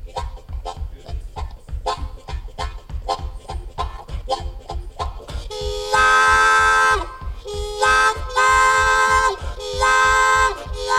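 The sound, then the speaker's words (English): An imitation of a freight train: a steady chugging rhythm for several seconds, then loud, sustained whistle-like wails in three long blasts with short breaks between them. “Train time, and roll on down the line at freight calling.”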